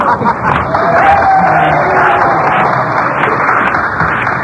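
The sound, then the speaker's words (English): Loud, sustained applause and cheering from two studio audiences at the College Quiz Bowl game between Colgate University and Cornell University: a dense wash of clapping with whoops and shouts rising over it, steady throughout with no pauses. “Can I have wild applause from both audiences?”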